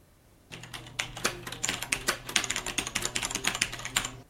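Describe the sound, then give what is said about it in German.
Rapid, steady typing on a mechanical keyboard, dense clacky keystrokes, with a faint low hum underneath and no voices. “Daher konzentrieren wir uns der Einfachheit halber für die weitere Betrachtung der mechanischen Bauweise auf die von Cherry angebotene Technik.”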